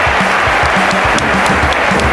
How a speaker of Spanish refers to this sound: Gente, se merece un aplauso.